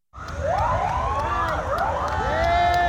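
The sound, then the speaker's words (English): Several police sirens of a motorcade escorting the remains of Army Reserve Sergeant Brianna Moffitt from Savannah's airport in Savannah, Georgia, wail at once, their rising and falling tones overlapping loudly and continuously over a low rumble of engines. “As GPB's Benjamin Payne reports, her remains were escorted from Savannah's airport by a police motorcade.”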